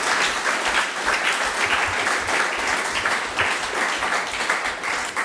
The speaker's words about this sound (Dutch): APPLAUS.